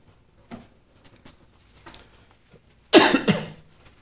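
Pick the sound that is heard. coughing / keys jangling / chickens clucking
coughing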